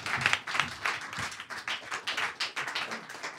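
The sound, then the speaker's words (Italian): Steady audience applause for Radio Popolare, the evening's host, many hands clapping in a dense, continuous patter at moderate loudness with no voices over it. “Fate un applauso intanto a Radio Popolare che ci ospita per questa serata.”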